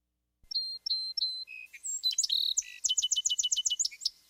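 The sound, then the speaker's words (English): A Song Sparrow sings clear: three slow, even introductory notes, then a buzzy trill and a rapid series of sharp chirps ending the phrase, with no other sounds around it. “Song Sparrow is number nine. And they have kind of like a three-part song.”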